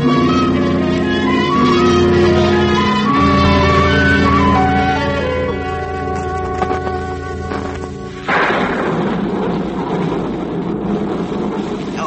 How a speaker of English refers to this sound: Oh, of all mornings to have bad weather. I'm sure no one will want to come over. It does look like a storm.